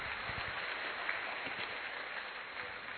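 Steady crowd applause, a dense crackle of many hands clapping that holds at an even, fairly loud level for the whole stretch, with no voices rising above it.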